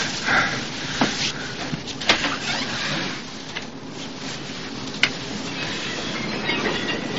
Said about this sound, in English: The train's about to leave.